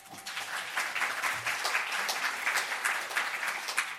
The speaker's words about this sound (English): Flash Rosenberg, another applause for her.